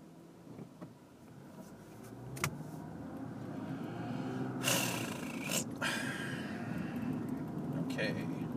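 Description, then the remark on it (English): Steady road rumble from a couple of passing cars, with a couple of sharp, airy whooshes midway as vehicles go by; a man on a bike is also on the road. Breathy sounds sit over the traffic noise. “Guy on a bike, we had a couple of cars here.”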